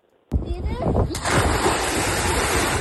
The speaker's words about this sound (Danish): Det her, det var... Det er en maveplasker, det der. Jeg elsker, at du kan høre barnet inden, så rammer jeg vandet.